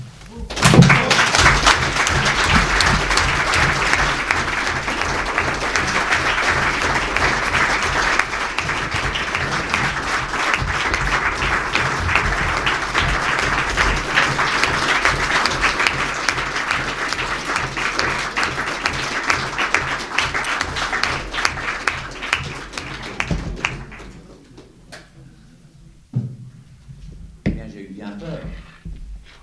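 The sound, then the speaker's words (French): Loud, sustained audience applause at the end of a conference, for speaker Jérôme Bourbon, rolls on for more than twenty seconds with a rhythmic clapping pulse underneath, before it suddenly dies away to near quiet with a few scattered sounds. “Vous avez été applaudi comme peu ont été applaudis, ça veut tout dire, monsieur Jérôme Bourbon.”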